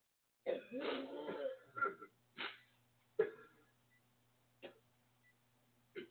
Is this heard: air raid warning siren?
no